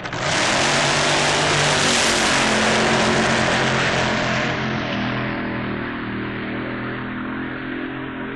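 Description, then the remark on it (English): A Keith Black-powered Monza drag racing car called The Force, Ronnie Picardo's car from England, roars loudly in a dense, steady blast that holds for several seconds, then eases slightly lower and quieter toward the end. “The car is a Keith Black-powered Monza called The Force.”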